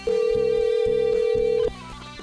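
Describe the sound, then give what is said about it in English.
A telephone line rings out with a steady electronic ringback tone, loud, holding for about a second and a half before cutting off, over a low repeating hum pattern, as the hosts of Rockin' the Suburbs call a friend in Louisville. “And let's get the phone going here.”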